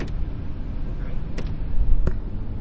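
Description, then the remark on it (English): Steady low road rumble fills a car cabin, with a couple of brief clicks or knocks cutting through the constant hum. No one speaks. “All right, because, you know, we're in the car and you kind of can't get out.”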